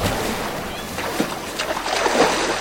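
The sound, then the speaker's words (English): A small boat sits on the water of a bay at sunset, with a steady wash and several louder splashes and sloshes surging through as people climb out onto a beach at the foot of a headland. No clear words are heard. “On the beach at the foot of the headland, they climb out of the boat.”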